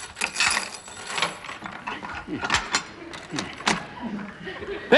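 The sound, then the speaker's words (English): Mechanical clicks and rattling, like a key turning in a lock and a latch working, as a back door is unlocked, followed by the creak and shuffle of the back door being opened, with faint movement throughout. “Open the back door, Lionel.”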